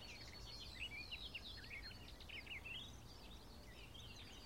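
A barred warbler sings a continuous, scratchy chattering song of rapid warbled phrases over a low steady rumble of background noise, with no voices.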